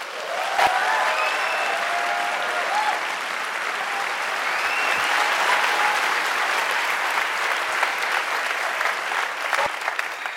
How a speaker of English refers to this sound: I guess you're going to send that applause to the 350 journalists who worked with you, right?